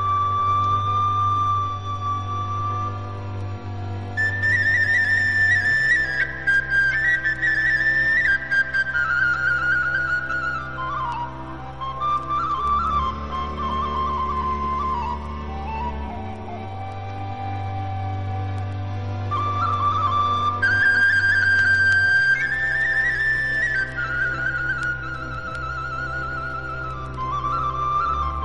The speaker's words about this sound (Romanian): care se înalță la gradul unui adevărat artist prin talentul cu care cânta doina din fluierul său.